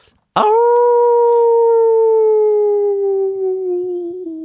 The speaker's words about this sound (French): Oh, mais c'est mon ami, vieux loup gris, qui m'appelle, se dit petit sous-marin. Il regarde par la fenêtre de la caravane et là, au loin, à l'orée de la forêt, il voit vieux loup gris qui l'attend et qui lui fait signe avec sa patte.